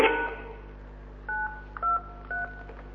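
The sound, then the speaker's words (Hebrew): Three dual-pitched telephone keypad beeps, evenly spaced and moderately loud, as a password is punched in, preceded by a short burst of sound at the start; no one speaks. “נא הקישו את הסיסמה שלכם ואחר כך תולמית.”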